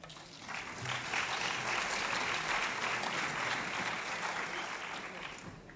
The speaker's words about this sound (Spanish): Un aplauso.